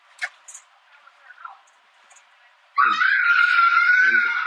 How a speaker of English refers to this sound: And there's a kid on the bus acting like a goddamn crazy kid right now. So please disregard that. Please disregard that whole background, please.